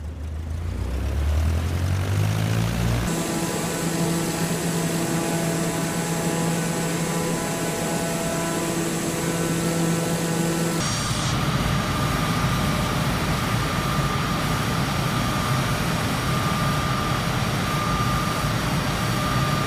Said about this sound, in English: It's about the constant drone of jet engines as they whine up during a heady turn and you listening for problems as you're ascending to flight altitude.